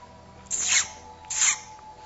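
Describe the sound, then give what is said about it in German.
Two bright, high-pitched chirping bursts, about a second apart, rise above a quiet steady background, like a bird calling twice in a garden. “Vögel zwitschern, duftende Blumen nicken dir mit ihren Blüten zu.”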